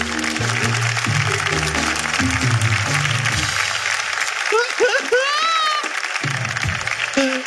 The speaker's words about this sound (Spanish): Fuerte aplauso para ella.